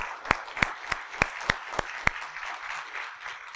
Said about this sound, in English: Praise the Lord. Well, I hope, let's actually give the Lord a clap. Thank you, Lord.